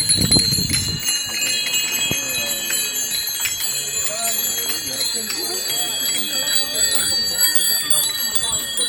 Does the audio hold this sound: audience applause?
no